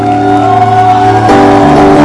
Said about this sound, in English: let your hand clap be louder. Let your shout be louder.